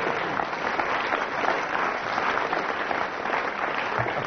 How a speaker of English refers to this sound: Then I get a round of applause. I was right.